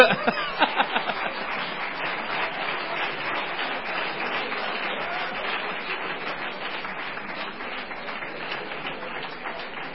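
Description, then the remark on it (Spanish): An audience breaks into sustained applause, a dense, steady wash of many hands clapping at an even loudness for the full ten seconds, with no one speaking over it. “Un aplauso por...”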